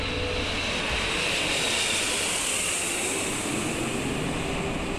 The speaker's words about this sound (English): A jet plane descended to Epley Airfield.